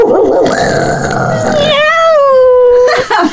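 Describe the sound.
A person loudly imitates a cat with one long, drawn-out meow, the voice wavering and then sliding downward before ending abruptly.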